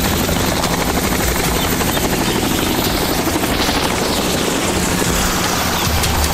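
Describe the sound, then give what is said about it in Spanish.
A helicopter's rotors thump in a fast, steady rhythm over a loud, broad engine roar, sustained throughout as it lifts off from a road, with no voices. “El helicóptero inmediatamente despega.”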